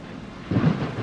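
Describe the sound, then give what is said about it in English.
Steady hiss of rain, joined halfway through by a sudden low rumble of thunder that swells and lingers, fairly loud, with no voices. “But one stormy night, the roof blew off and the dried wood was drenched by the pelting rain.”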